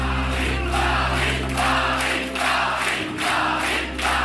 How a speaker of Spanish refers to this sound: La masa grita su nombre.